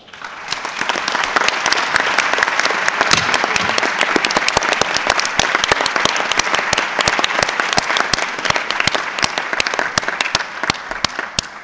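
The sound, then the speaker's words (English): A crowd applauds steadily, with dense overlapping claps forming a loud, even wash of sound and no voices standing out, as Ambassador Marcelo Vasquez-Bermudez of Ecuador is elected by acclamation as chairperson of the 76th session of the Executive Committee. “It is so decided, and you heard the gavel, or maybe not, while you applauded.”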